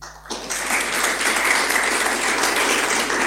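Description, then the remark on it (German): An audience at a panel discussion held by the town of Jever and Radio Jade breaks into applause after a brief quiet moment, a dense, steady patter of many hands clapping at an even loudness for several seconds. “Erstmal schön, dass Sie da sind, vielleicht einen kleinen Applaus.”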